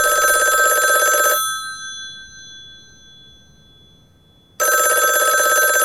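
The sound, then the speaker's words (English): An old-fashioned telephone bell rings loudly in two long metallic bursts separated by a few seconds of quiet, its shimmering tone lingering into the pause. “It's just a telephone.”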